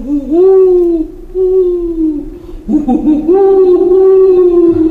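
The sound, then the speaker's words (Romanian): Two long, drawn-out owl-like hoots, loud, each swelling then holding steady; the tone sounds like a human voice imitating an owl's call. “Nu-i glas de porumbiță, e cânt de buhă neagră.”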